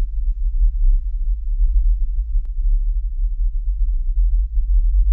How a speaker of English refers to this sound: Okay, there you go. You can hear it's a very, very low-level hum. And that should give you an idea. Once again, the Windsor hum, this is what people report hearing in various vicinities.